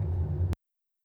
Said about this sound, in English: Careful, careful, traffic, traffic, careful, careful, traffic. Careful, careful, traffic, traffic, careful, careful, traffic. I think this traffic is scary. I think this traffic is scary.